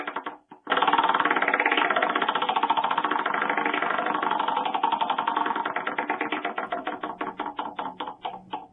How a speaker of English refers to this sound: All right, let's spin the wheel.